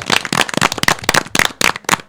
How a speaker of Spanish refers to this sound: ¿Qué os parece si les damos un fuerte aplauso para ellos?